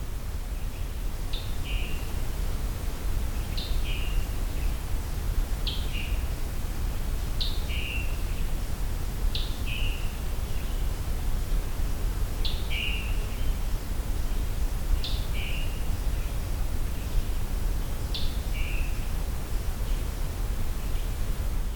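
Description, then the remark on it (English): A bird repeats a short, high two-part call about every two and a half seconds, clear, over a steady hiss of background noise. No one speaks. “I've always found this call interesting because to some species this could be a song.”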